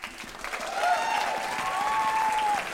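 An audience at a live event at Caveat in New York City applauds steadily, a dense wash of clapping with a few whistles or whoops rising over it, holding at a fairly even loudness throughout.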